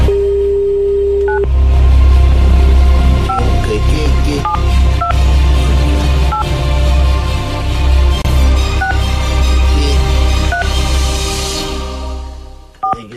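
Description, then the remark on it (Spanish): A steady dial tone gives way to a series of short, evenly spaced touch-tone beeps as a number is keyed in to phone a woman, over a loud low rumble. A single brief spoken word appears near the end. “Vamos a llamar por teléfono a la señora.”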